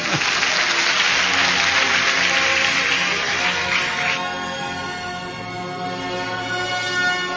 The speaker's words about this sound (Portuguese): Então vamos aplaudir esta palavra.